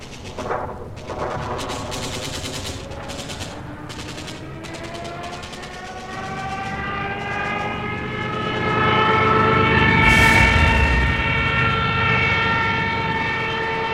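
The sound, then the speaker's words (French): Rapid bursts of machine-gun fire rattle over a droning aircraft engine as German and Italian warplanes strafe and bomb refugees crossing the Pyrenees toward France; the engine's whine climbs in pitch and swells louder before a heavy explosion booms, followed by continued roaring engine noise. “Ils sont également mitraillés et bombardés de manière intensive par l'aviation allemande et italienne.”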